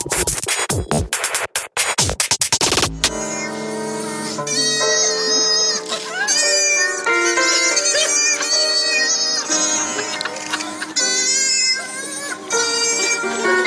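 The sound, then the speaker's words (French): Brief crackling noise bursts, then a steady stream of meow-like wailing tones with sliding pitches, like cats singing in chorus, made by an unusual instrument as fake meows rather than real cats. Loud, with no talking. “Pour moi, donc, on pense entendre des miaulements de chats, donc des chats en train de chanter.”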